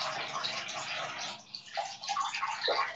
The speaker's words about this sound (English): I think the water might be escaping. No, it's not. It's just such a big bathtub that like it takes a really long time to fill. I'm gonna add a bit more water.